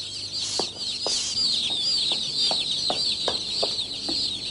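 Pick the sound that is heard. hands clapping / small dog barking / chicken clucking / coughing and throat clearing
chicken clucking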